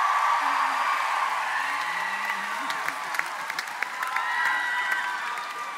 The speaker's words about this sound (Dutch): Dus, ik wil aan je vragen. Wil je een applaus geven voor mijn grote vriend